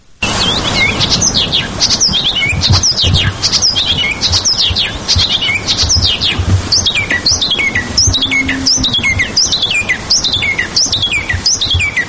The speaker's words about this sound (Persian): حالا اکنون در تاجیکستان یافتند و در کوهستان بدخشان. پیش از صحبت با فردی که چکاوک درشتنوک را در تاجیکستان پیدا کرد، اول سرودن این پرنده خوشالهان را میشنویم.